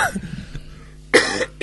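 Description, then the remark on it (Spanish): A person coughs on air, a softer rough cough at the start and then a sharp, loud cough burst near the end, with a brief quiet gap between. “Esto no se hace toser al aire, pero yo soy así.”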